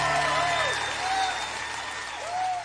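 An audience applauds steadily and fairly loudly throughout, a dense wash of clapping with a few swooping, whistle-like tones rising over it at intervals.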